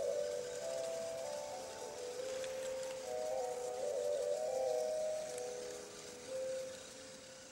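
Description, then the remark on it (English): A small color-sensing toy train, the color chaser, whirs along hand-drawn black tracks, its motor humming with a soft hiss, while electronic beeping tones shift up and down in pitch as it runs over dabs of color, playing a different note each time. “You're listening to a little train that's running over tracks, black tracks that we drew, and encountering little dabs of color.”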